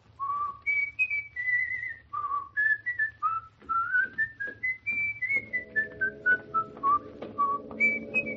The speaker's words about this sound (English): …, stop whistling for a minute and tell me if you know where we're going.